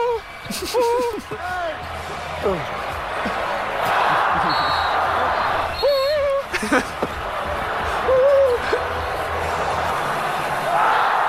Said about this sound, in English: by Portis of the Milwaukee Bucks, because he called for the basketball like every basketball player has called for it at some point of their career, and then he hit shots when he got it after calling for it, and we got it on tape here.